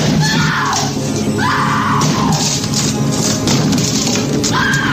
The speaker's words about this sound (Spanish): Nicholson, hacha en mano, intenta derribar la puerta del baño donde se esconden su mujer y su hijo.